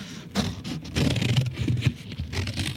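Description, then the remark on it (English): Sharp scissors slice through heavy paper in a continuous crisp, rasping crunch, with a few stronger snips standing out along the way. There is no talking. “Heavy paper being cut with sharp scissors.”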